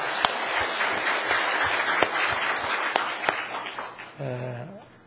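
A crowd at a church choir contest applauds steadily for about four seconds as applause of glory to God, a dense wash of many hands clapping together, then a voice briefly speaks as the applause fades out.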